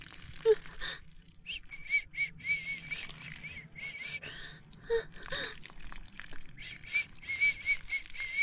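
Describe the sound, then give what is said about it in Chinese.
Soft, high whistled notes, whistled by a person to help themselves urinate, come in short bursts, repeating every second or two, mixed with breathy gasps and rustling. No one speaks. “吹口哨给自己冲尿，是小母狗自己来啊，就不用麻烦主人，小母狗自己来就行。”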